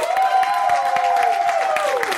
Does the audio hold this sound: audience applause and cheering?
yes